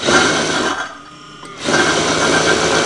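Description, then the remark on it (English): An old mechanical sewing machine runs in a steady, rattling whir, pausing briefly in the middle before starting up again at full speed, fairly loud with no voices, as a tailor makes men's trousers in a decrepit storefront in the Siruz district of Tehran, Iran. “In a decrepit storefront, tailor Hassan uses an old sewing machine to make men's trousers.”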